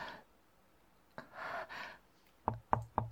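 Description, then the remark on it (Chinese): Three sharp knocks on a door in a quick, slightly uneven rhythm, distinct, preceded by a couple of soft breathy sounds in otherwise quiet surroundings. “有人敲门”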